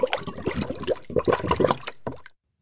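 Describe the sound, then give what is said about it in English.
Thick melted chocolate pours into ice cube trays with a steady, gurgling, splashing flow for about two seconds, then stops abruptly into silence. No one speaks. “Then, I poured it into ice cube trays and put them in the freezer.”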